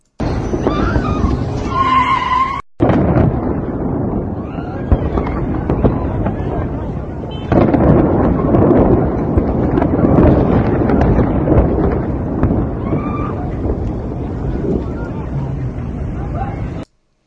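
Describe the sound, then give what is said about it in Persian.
Deep, muffled explosions from underground rumble continuously in the Shahrak-e Bagheri area, heavy low booms rolling one into another with a brief cutoff early on, loud and sustained, with faint voices in the background. “و یک ویدیویی هم اومد بیرون که من اون ویدیو رو میذارم براتون، با صدا میذارم براتون، صدای انفجارها رو میشنوین که از زیر زمین به گوش میرسه.”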